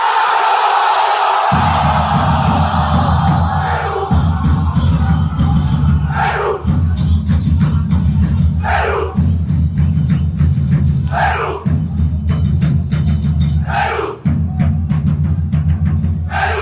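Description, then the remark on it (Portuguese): Fans of Peru's national football team cheer loudly in a huge crowd, a dense roar punctuated by rhythmic chanted bursts that rise and fall every couple of seconds, with no speech over it. “Olha, não há torcida de seleção nacional que se compare à torcida peruana.”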